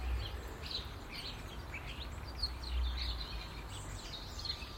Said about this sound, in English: So it's just a matter of a wee flick of a handle, or a flick of a wee handle, and I can open a window a wee bit and let the sound in. Because I couldn't live without the sound of the bird.